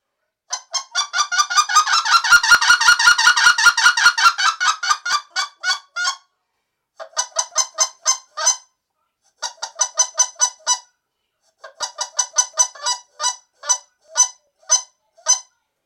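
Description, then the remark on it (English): Sharp single-cut clucks from a goose call, one crisp note per hit, starting in a fast dense run, then spaced into short bursts of evenly timed notes with brief pauses between, loud. “Whatever ends in a good sharp syllable in the end. It's kind of like single cut feed duck call.”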